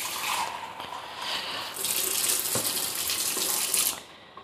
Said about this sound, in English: So I've gone down to the kitchen. That's the tap right there.